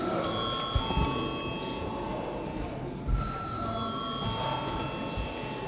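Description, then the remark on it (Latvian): A parliament session bell rings before a vote in a long, steady tone for several seconds, its bright pitch holding even throughout, over a low murmur of room noise and faint voices. “Lūdzu zvanu.”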